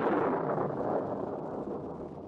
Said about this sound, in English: Sounds pretty mysterious with that thunderclap right after its name like that, doesn't it? Well, I don't know whether that thunder's a coincidence or not after all the weird stories about that place.